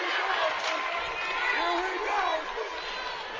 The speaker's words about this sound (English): We can hear the Notre Dame faithful in the background cheering the Nikes on